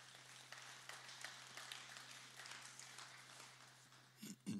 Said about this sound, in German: Ja, gibt es einen Applaus.